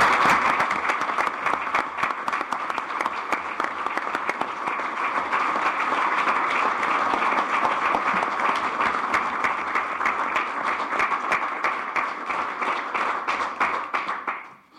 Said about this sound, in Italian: E secondo me un applauso.